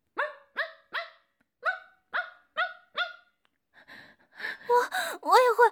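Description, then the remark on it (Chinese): A person imitates a dog barking on being told to: seven short, evenly spaced woofs, followed by breathy gasps and whimpering, whiny vocal sounds. “啊，你要我学狗叫？好，我这就学。”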